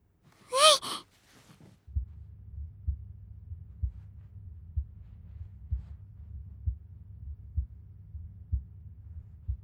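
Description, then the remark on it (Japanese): A short breathy gasp, then a close, muffled heartbeat of the speaker, offered as heartbeat ASMR to help the listener sleep, thuds steadily and slowly over a low rumbling hum, about one beat per second until the end. “私の心臓の音、聞こえてる？そう、心音 ASMR って言うんだっけ、こういうの。”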